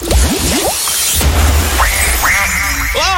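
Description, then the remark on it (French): A duck quacks repeatedly, a quick burst of short rising calls followed by several longer, nasal quacks, fairly loud over a steady rushing background noise. “C'est un canard qu'on entend là,”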